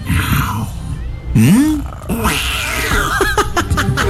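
A cat lets out a single loud meow that rises and falls in pitch, set against a steady murmur of muffled background noise.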